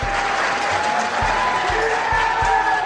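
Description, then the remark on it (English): Anti-abortion activists packing the audience in the Arizona state House applaud steadily after Republican leaders shut down a motion to repeal the law, dense clapping at moderate volume, with a few thumps underneath and faint murmuring voices mixed in. “That led to a round of applause by anti-abortion activists who packed the audience, as posted on X by the DNC.”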